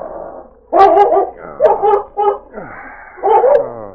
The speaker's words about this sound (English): Judd and his family were sleeping soundly when the barking and growling of Ned's dog, Shag, awakened them.